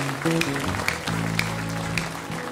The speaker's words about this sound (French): Est-ce qu'on peut applaudir, acclamer celui qui nous donne la victoire ce matin?